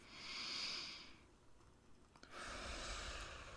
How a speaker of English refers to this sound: Breathe deeply and focus on the rhythm of your breathing.